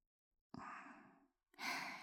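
Two heavy, rough breaths close to the microphone: a long, loud exhale, a brief pause, then another forceful breath starting. No talking.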